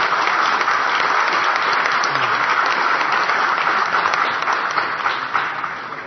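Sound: round of applause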